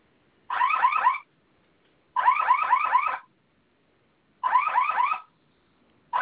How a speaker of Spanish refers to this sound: Y vamos a realizar una prueba. Claro. Vamos a mantener presionado el botón de la flamita. Okay. En cuanto suene la alarma, va a ingresar la clave que usted escogió, ¿sí?